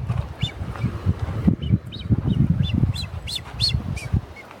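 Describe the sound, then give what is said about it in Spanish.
Blue-footed booby seabirds squawk in a series of short, sharp calls over a steady low rumble of wind or surf, with several bursts repeating irregularly. “Se escucha el graznido o el trinar de estos piqueros, ¿no?”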